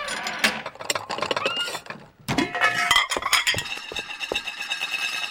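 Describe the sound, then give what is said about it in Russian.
Metallic scraping and a quick run of clinks as a spatula moves fried eggs from a frying pan onto a plate and taps the plate, with brief sizzling noise underneath and no one talking. “Яичница готова. Надо ее со сковородки переложить на тарелку.”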